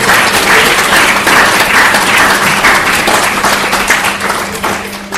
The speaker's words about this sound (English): Okay, so with that we will thank His Holiness Vedavyasa Supriya Swami. A big hand or a round of applause for him, please.